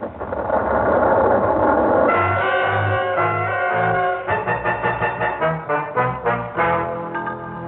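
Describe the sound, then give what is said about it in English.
The rocket engines of the spaceship Orion 1 fire with a broad, hissing roar that shifts into a loud, throbbing mechanical drone, pulsing rhythmically with a layered, buzzing tone and no voices. “Ready to fire engines. Ready. Fire.”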